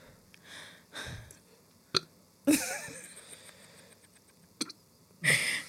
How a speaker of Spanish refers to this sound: Eso, tengo un problema de qué eructo más forzado, majo, qué pecado.